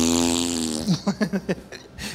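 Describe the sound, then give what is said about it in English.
A voice imitates a fart, starting with a long, steady buzzing raspberry, then breaking into a quick run of about five or six sputtering pops, fairly loud, with no talking. “I was like that guy that fart, you know.”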